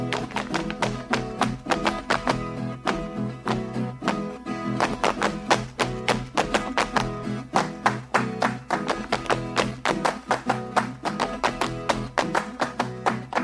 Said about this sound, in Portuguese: É o som da catira aqui, né?